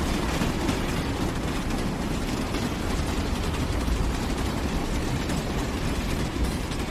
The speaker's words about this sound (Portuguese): Ainda o ponteiro não batia na meia-noite quando o comboio arrancou da Sérvia para descer, cruzar a fronteira e entrar no Montenegro.